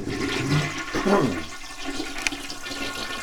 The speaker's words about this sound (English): She's not coming into the bathroom, so we flush the toilet.